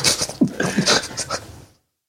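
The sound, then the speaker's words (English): A person panting hard while trying to focus their breathing, with quick, breathy huffs repeating in a fast, steady rhythm for a couple of seconds before stopping abruptly. Fairly loud, no talking. “Oh, trying to focus your breathing. You breathing like a dog waiting on a treat.”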